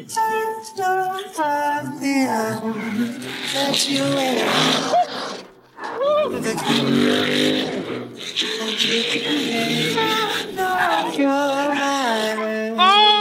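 Race car engines, including a Hoonicorn, whine and rev continuously, their pitch climbing and dropping through repeated gear shifts as the cars speed around the track, loud throughout; one car repeatedly nearly rear-ends the car ahead.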